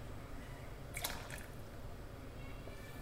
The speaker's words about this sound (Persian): و آبلیمو رو اضافه میکنم بهش.